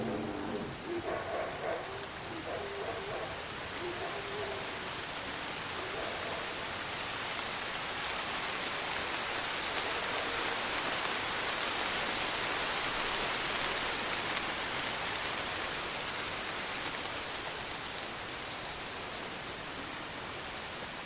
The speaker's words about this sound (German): Die Erde verdunkelte sich und es begann ein schwarzer Regen. Tagregen, Nachtregen.